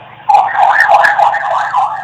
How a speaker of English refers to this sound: Sirens here. It's all right. We'll just pull it away for a second until they go away.